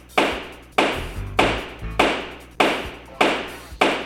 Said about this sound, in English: really pounding the hell out of that gavel. Holy cow. With authority. Let's hear it one more time.